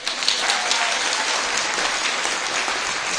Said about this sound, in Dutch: Geef ze maar een applaus.